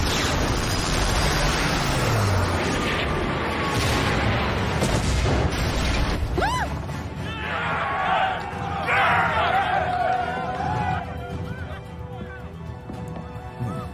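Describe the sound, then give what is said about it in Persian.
A missile launches with a roaring whoosh amid heavy, booming explosions, loud, forming a dense continuous barrage with rumbling low end and faint voices beneath. “زدیمشون. پرتاب اسفیر هفت و ده خوبی بود خانوما.”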